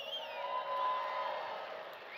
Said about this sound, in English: Now, you should get a little happier than that, because I want to tell them that you hooted and hollered and whistled and yelled and clapped.